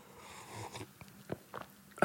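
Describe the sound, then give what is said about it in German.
Quiet mouth sounds of someone sipping coffee: a few soft wet clicks and small slurps spread over two seconds, ending in a sharper, louder burst of noise. “Jetzt trinke ich erstmal einen Kaffee”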